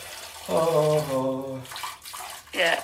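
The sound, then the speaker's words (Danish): A steady stream of water splashes and trickles, like someone urinating, with a brief sustained vocal sound rising over it and another short voice near the end. “Du slipper lidt noget vand nu, eller hvad?”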